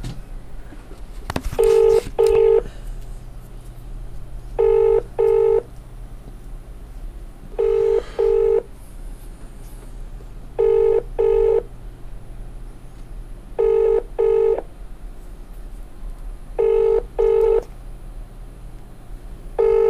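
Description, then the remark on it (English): A telephone ringing tone heard down the line on a call to a civic centre insurance office in Enfield in December 2020, six evenly spaced double rings about three seconds apart, following a brief click of the call connecting, with a low steady hum underneath. “And I'm going to try and call Enfield Civic Centre Insurance.”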